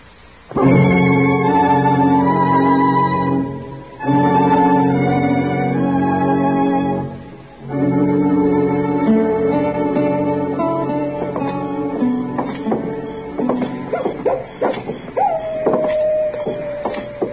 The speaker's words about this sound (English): That miserable old coyote, Mr. Dillon. Did you hear him? Yes, I heard him, Chet.